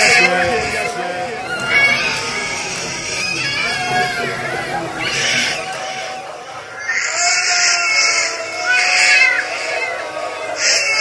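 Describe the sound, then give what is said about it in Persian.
A 22-day-old baby cries in a continuous series of loud, high-pitched, wavering wails with brief catches of breath between them, lasting the whole stretch. “باباهاش، این صدای گریشه.”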